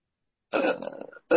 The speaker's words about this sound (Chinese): 啊、哦，有东西出来，好，打完嗝会更好了。